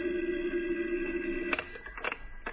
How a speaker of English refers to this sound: As I was about to lift him off the bed, the phone rang. A shrill ring filled the room.